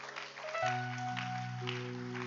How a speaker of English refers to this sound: Are you not clapping your hands?